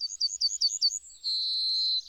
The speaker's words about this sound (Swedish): Ja, där är den. Gulsparven. Fågeln som kan räkna till 7.